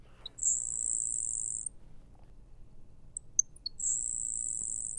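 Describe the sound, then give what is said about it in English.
A grasshopper sparrow's thin, high, insect-like buzz, introduced by a couple of sharp ticks, sounds twice as a sustained hissing trill lasting over a second each time, separated by a pause with faint chips. “Another bird that makes an unusual sound in our area as well would be the grasshopper sparrow”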